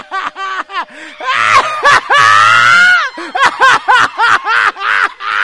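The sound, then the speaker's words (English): Several worshippers scream and whoop in praise in loud, excited bursts, with a long sustained shriek in the middle and choppy laughter-like cries before and after. “Girl, I just dare you to scream.”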